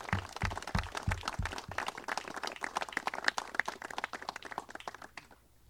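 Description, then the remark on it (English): An audience breaks into sustained applause for the governor and lieutenant governor of Iowa, many hands clapping densely and steadily for about five seconds before it quickly dies away. Some low thumping sounds underneath at the start. “Please join me in a round of applause for Governor Branstad and Lieutenant Governor Reynolds”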